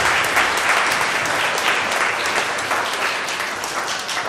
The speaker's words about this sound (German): Einen großen Applaus für euch. Vielen Dank für euer Mitmachen.